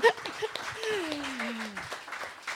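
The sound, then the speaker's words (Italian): A short burst of applause for a collaborator: scattered, irregular hand claps from a small group, moderately loud, with a voice sliding down in pitch over the clapping. “No, volevo proporre comunque, come ha detto lei, dato che ci siamo viste poche volte, riproporre un applauso per questa collaboratrice che è stata fantastica.”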